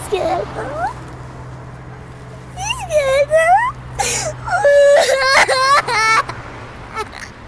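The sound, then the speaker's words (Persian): A frightened young girl cries beside a car after wetting herself, in wavering, pitched whimpers and sobbing wails, rising and falling in several bursts, with quieter breathy sniffles at the start and a low hum underneath. “اشکال نداره، گریه نکن، اشکال نداره.”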